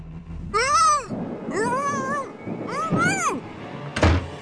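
A stray cat yowls three times at night in long, wavering, drawn-out cries, loud, followed by a single dull thump at the end.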